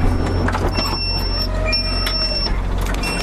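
Train doors being released by a staff member using a key, opening to a repeated high-pitched electronic warning beep sounding in short bursts over a steady low rumble of the idling train. No one speaks.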